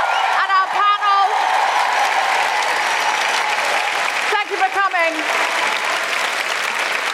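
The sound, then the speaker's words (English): Sustained audience applause for the performers of a show, stand-up comedians and actors who read: a dense, steady wash of many hands clapping at full volume, with a few shouted cheers rising briefly above it near the start and again toward the middle. “I don't have time to name everybody, but can we just have a huge round of applause for all of the incredible performers?”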